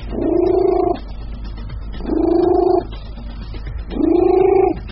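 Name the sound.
cat purring loudly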